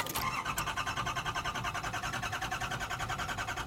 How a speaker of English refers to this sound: This, Chef, is a ring of sliced cucumber served on a fully restored 1986 Ford Cortina. Uh-huh. Does the engine still work? Yes, Chef.